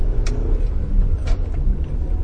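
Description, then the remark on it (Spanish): A car engine drones loudly and steadily as the car climbs a hill, a heavy low rumble straining under load on the incline, with no voices over it. “Estoy subiendo una cuesta. Espera que el sonido del motor baje un poquito para poder seguir hablando.”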